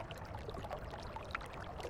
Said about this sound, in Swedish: Hör du bäcken?